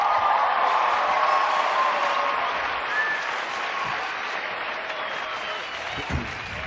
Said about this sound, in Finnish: Aplodin paikka.